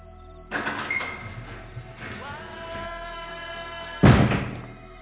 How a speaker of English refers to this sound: Aha! The stage door.